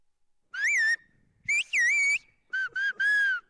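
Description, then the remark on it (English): Whistled Turkish speech by villagers of Turkey's Black Sea coast, who communicate by whistling across steep valleys: a piercing whistle in five or six quick bursts, sliding up and down in pitch like syllables of a spoken phrase, with brief pauses between and no voices. “To this day, villagers communicate with each other by whistling across the steep valleys, not just whistling a nonverbal kind of hey you or … writes our theme music, but actually speaking whistled Turkish.”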